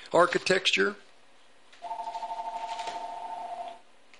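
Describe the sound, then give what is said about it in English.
A brief burst of speech, then a telephone rings with a steady, rapidly pulsing electronic trill lasting about two seconds, moderately loud. “Got a phone in here.”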